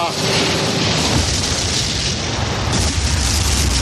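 Valencian fireworks exploding in a loud, dense barrage at a celebration in Spain, overlapping booms and crackling bursts filling the air continuously with no pause, with a rumbling low end throughout.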